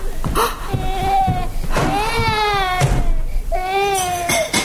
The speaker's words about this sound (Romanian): Ușurel, dragul mami, nu plânge.